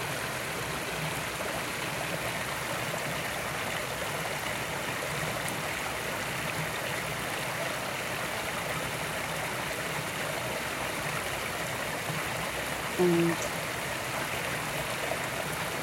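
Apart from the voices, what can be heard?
babbling stream water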